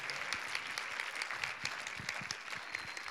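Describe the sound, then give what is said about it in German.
An audience claps steadily, a dense wash of many hands with scattered sharper individual claps, sustained at an even, moderate loudness for a few seconds without voices. “Andreas, wenn ihr nach vorne kommt, gebt dem Sigi nochmal richtig einen Applaus.”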